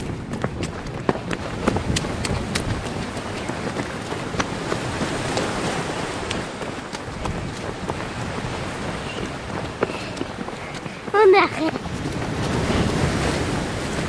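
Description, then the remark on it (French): Strong wind roars across a flat, open seashore with no obstacles, buffeting the microphone with gusty rumbles while surf washes steadily in the background; a brief sharp knock sounds near the end. “Il y a beaucoup de vent.”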